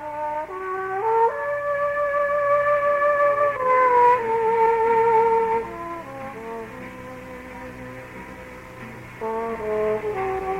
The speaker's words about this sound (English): I stop short. This, I say, is no foghorn off New York Harbor. This sounds like the trombone of …